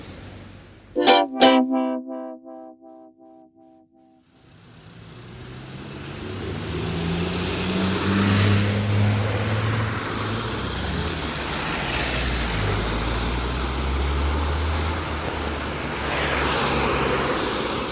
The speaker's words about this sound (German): So, da bin ich wieder. Es wird mir jetzt hier doch zu laut, zu viele Autos.